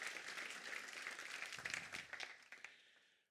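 An audience applauds, a dense wash of many hands clapping at a steady level before thinning into a few scattered claps and fading out after about three seconds.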